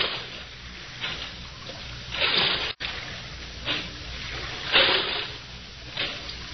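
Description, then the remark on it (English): A boatman's oars dip and pull through water in a steady rhythm as he rows around the Blue Grotto, each stroke a soft splashing swish about once a second, with a low watery wash between strokes and no voices. “Now, I will row you round the blue grotto.”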